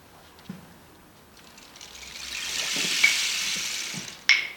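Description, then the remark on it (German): A steady wash of thunderstorm rain on leaves swells into a broad hiss, with scattered soft taps and patters and a sharp knock near the end, no voices. “Es rauschelt und klopft.”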